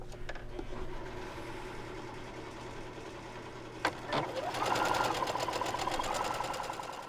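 A sewing machine stitches a straight stitch along an edge folded down about an inch, sewing a pocket for a red and white baby's bib in Fayetteville; its motor hums under a fast, even chatter of stitching that speeds up and grows louder after a brief click partway through.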